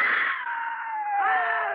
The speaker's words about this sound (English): It's flying at us. Scream again. Make noise.